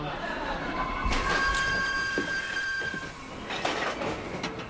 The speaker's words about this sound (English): Relax, we still have time. 10 more minutes on the train and then a 15-minute walk.